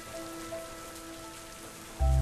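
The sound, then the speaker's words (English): Steady rain patters and hisses evenly throughout on a dark night, with faint sustained tones beneath it, until a sudden loud, low rumble bursts in at the very end. “Things just seem bad because it's dark and rainy”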